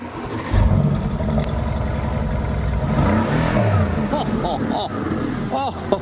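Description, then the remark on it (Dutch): The V8 engine of a black convertible car kicks into life and settles into a deep, throbbing rumble, then is revved several times, the pitch rising and falling in quick bursts. Loud throughout. “Het is een achtcilinder. Ik heb maar één achtcilinder cabrio zwart”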